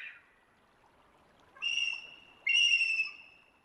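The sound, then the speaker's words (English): A bald eagle's high, thin whistled calls ring out twice in a row, fairly loud, each a sustained piping note, with a brief faint call just before them and no talking. “We're hearing what an eagle actually sounds like from the Cornell Lab of Ornithology.”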